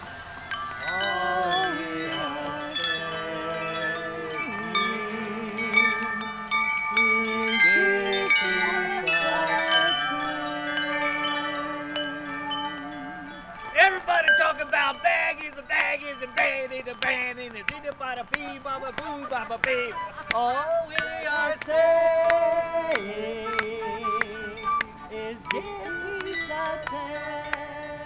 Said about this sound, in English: But once fortified, the troupe gathered around the chime arbor for one more performance.